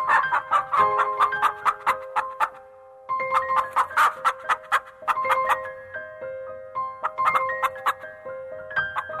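A bright, melodic song with sustained keyboard-like notes, overlaid with rapid chicken clucks and squawks that come in choppy bursts, pausing briefly before the tune and clucking resume.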